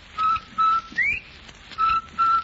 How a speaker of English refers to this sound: And she said... Is that bird saying rinsel white? Rinsel white, rinsel white.